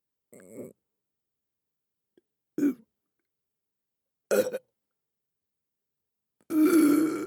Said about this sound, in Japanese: ゲップなんかでこんなになっちゃうなんて。やば、また出そうかも。